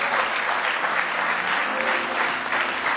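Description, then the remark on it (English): Sustained applause from a large church crowd giving the Lord a hand clap of praise, dense overlapping hand claps holding steady and fairly loud for the whole stretch, with no clear voices standing out. “Let's give the Lord one more good hand clap of praise tonight.”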